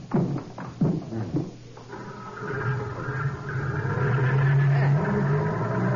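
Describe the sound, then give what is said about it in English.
A jeep with side curtains: its engine rumbles into a steady, loud drone after a few brief clunks, its low hum climbing in pitch as the vehicle accelerates away. “Side curtains on this jeep, and it's something Orlando must be used to seeing.”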